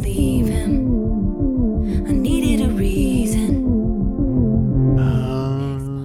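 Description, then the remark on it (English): A throbbing, pulsing drum beat thumps steadily through a song, with a wavering, siren-like tone gliding over the rhythmic low pulses, loud throughout. “It is this like amalgamation of ambulance or police siren plus heartbeat.”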